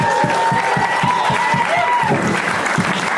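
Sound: clapping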